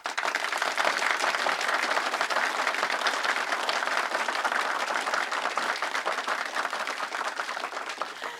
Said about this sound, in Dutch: Geef haar allen een groot applaus.